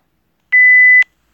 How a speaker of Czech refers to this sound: So I'm starting the timer, and you'll hear little beeps for 3, 2, 1.